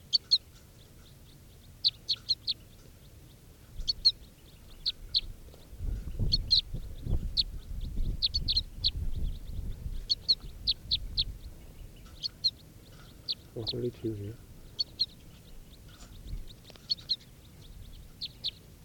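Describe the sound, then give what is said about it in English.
Begging birds, recorded at 11:51 during mist-netting with crossbills and siskins about, give thin, high-pitched begging calls in quick repeated bursts, rising and falling in steady clusters throughout, with a low rumbling noise swelling briefly underneath midway. “And these are the begging calls of, oh, I got a crossbill in the net now.”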